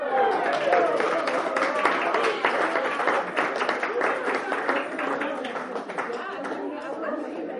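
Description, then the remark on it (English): Steady applause fills the scene, many hands clapping at once while a crowd chatters and cheers over it, staying loud and busy throughout, at a ribbon cutting in front of banners for the five-year anniversary of nonprofit KHOI in Ames. “spoke a few minutes afterwards, after the applause.”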